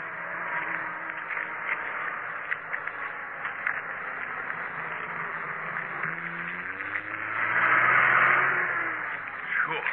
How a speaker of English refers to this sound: Hey, watch out. There's a truck coming along behind. Get to the side of the road and keep your voice down.